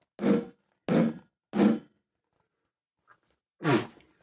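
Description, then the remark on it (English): Someone sneezes four times during a bourbon tasting: three loud, forceful sneezes in quick succession, a short pause with a faint small noise, then one final sneeze. No one talks. “God fucking bless you.”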